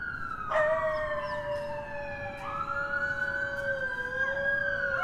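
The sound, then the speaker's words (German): A loud, wailing siren holds steady and drifts in pitch while two coyotes in Central Park, New York, howl along with it, their long rising and falling cries blending into the siren's tones. No one speaks. “Laute Sirenen und Kojoten, die dazu heulen.”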